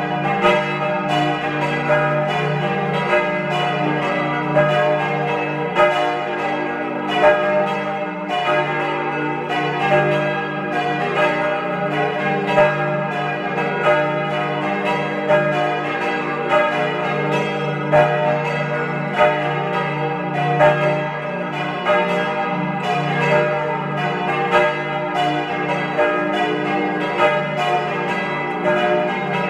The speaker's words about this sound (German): Es ist 12 Uhr. Sie hören die Glocken der Pfarrkirche zum heiligen Nikolaus in Kramsach in Tirol.